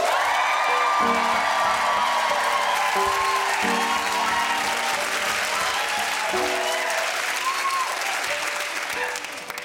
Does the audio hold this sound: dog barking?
no